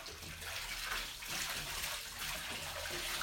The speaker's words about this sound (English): That's a big splash.